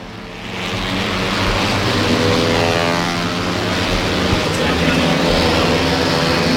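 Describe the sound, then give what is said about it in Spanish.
Moto2 racing motorcycle engines roar loudly and continuously during practice at the Jerez circuit, a dense, buzzing mechanical drone that rises in the first half-second and stays intense, with layered engine tones shifting as the bikes pass through a curve. “Hay entrenamientos de Moto2. Mira, van a pasar ahora mismo por la curva por la que yo me encuentro. Este es el rugido.”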